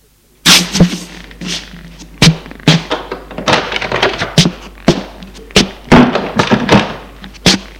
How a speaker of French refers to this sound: Il se retourne et ouvre une porte.